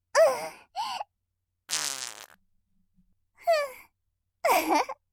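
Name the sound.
fart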